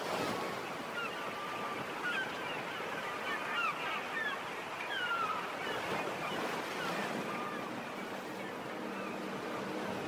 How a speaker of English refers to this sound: Let's hear the sea rolling up against the cliffs of Doneen